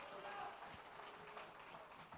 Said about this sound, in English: Well, praise God. Clap your hands into him and bless his name. What a good God.